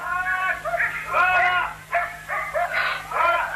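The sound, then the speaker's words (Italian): Several dogs bark and yelp in quick, overlapping bursts, loud, with high-pitched, whiny yips running continuously for a few seconds. “Dunque devo andare a farmi sbranare dai tuoi cani?”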